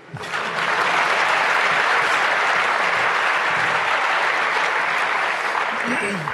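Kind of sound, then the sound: crowd, audience applause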